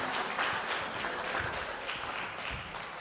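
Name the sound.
audience clapping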